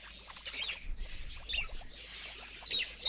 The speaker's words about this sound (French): Voilà donc un exemple de ce qu'est un film de Max Pécasse. C'est alors des oiseaux qui chantent, c'est du soleil, c'est des Bien cigales, sûr.